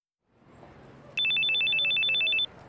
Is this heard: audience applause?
no